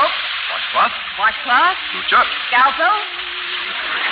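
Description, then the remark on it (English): A steady, hissing spray of shower water runs throughout as someone takes a shower in public, with short wordless vocal bursts rising and falling over the noise. “Well, I don't suppose you'll believe this, but this will be the first time I've ever taken a shower in public.”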